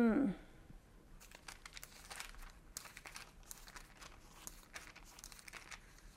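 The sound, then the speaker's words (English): Rapid, irregular clicking of keys on a computer keyboard, a steady patter of soft taps, after a brief voice sound at the very start. “I need to quit typing so fast.”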